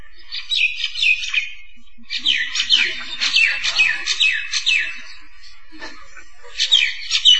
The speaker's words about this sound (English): It's a bird concert. There's different voices. This one's very loud.